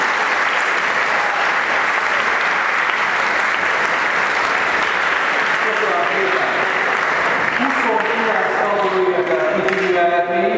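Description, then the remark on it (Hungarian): An audience at a school breaks into loud, sustained applause for the whole school's academic results, a dense steady clatter of many hands lasting the whole time, with a voice starting to speak over it in the final few seconds. “Meg lehet tapsolni az egész iskola eredményét.”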